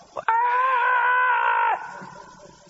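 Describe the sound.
A single voice lets out a long, loud, sustained shout, imitating the roar of a crowd of 40,000 men, holding steady for over a second before cutting off into quieter background noise.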